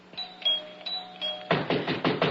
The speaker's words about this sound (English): Finally. Why must he pound on the door?